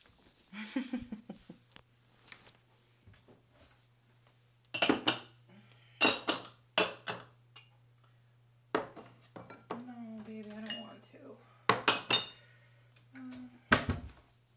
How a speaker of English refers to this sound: I couldn't sleep. I just thought I'd come up and do the dishes before everybody gets up.